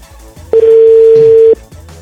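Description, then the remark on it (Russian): A single steady telephone ringback tone lasting about a second, loud, sounding alone with faint background hum before and after. “Хотя, что я ему звоню, если он предупреждает не вестись, да, даже на сообщение, к телефону он точно не подойдет.”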